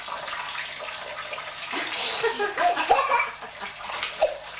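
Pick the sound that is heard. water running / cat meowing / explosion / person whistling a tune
water running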